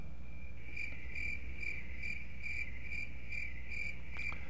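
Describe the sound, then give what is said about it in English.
Crickets chirp steadily in a fast, even pulse, a continuous high trill repeating about twice a second over a faint low hum, with no voices. “I want you to just listen to the sound of crickets this morning, because they actually have a lot to tell us about worship, believe it or not.”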